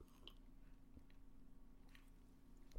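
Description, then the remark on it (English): Quiet mouth sounds of someone sipping peach iced tea, a few soft slurps and swallows spread over a few seconds against a low steady hum, with no talking. “So I'm going to take a sip of my beverage.”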